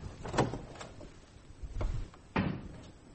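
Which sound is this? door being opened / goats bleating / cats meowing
door being opened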